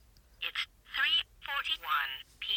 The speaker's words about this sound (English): If you tap on the glass, you can also hear the time, which I find quite unique, because when I used to use talking watches, I have certainly not had that function available.